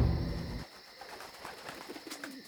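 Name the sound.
pigeon cooing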